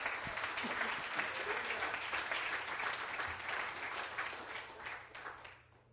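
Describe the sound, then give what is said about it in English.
An audience claps their hands when told to clap, a dense, steady wash of applause that holds for several seconds and then fades out toward the end. “Clap your hands.”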